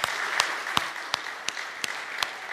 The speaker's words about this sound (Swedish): Visst sjunger kören bra, eller hur? Ja, vi ger dem en applåd, va?